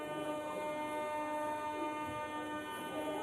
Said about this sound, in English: No, I'm actually in a subway station. And if you go down from Kiev, in all these subway stations, there's a whole world. Life has gone underground, basically. So many people are now living here.